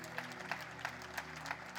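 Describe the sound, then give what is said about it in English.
A church audience claps in a steady rhythm, about three beats per second, a dense and sustained wash of many hands filling the room, with no voices standing out. “Keep clapping for Jesus.”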